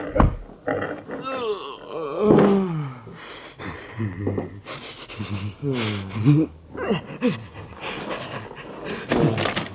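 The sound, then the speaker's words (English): A gorilla roars in loud, rough bursts with rising and falling pitch, broken up by panting, snorts and heavy banging thuds like a door slamming. “The gorilla.”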